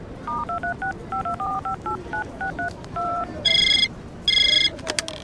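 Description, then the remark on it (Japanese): A quick sequence of short two-tone keypad beeps as a phone number is dialed to call a workplace, Design Office J, followed by two bursts of a bright electronic ringing tone, all clear with no talking. “あ、そうだ、会社に電話しなきゃ。”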